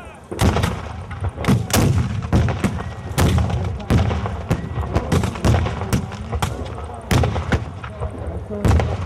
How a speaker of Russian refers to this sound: По словам самих участников реконструкции, было достаточно сложно, потому что присутствовала кавалерия. Более 40 лошадей нужно было приучить не реагировать на многочисленные выстрелы и вспышки.